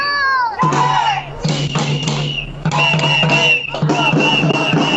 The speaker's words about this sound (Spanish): Ahí, cierto, se escucha cómo los profesores también gritan, levantando algunas consignas que no son nuevas, pero que cobran mucha más fuerza en esta oportunidad.